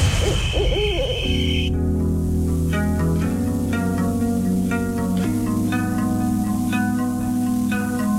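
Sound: owl hooting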